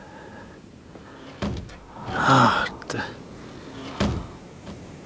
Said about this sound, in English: screen door.